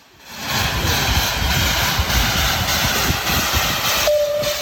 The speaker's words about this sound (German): Ein Häuf von euch, viel Lärm und strahlende Gesichter an jedem Ecke. Das verspricht eine Fahrt mit dem Dampftram von der Stiftung Bernmobil Historik.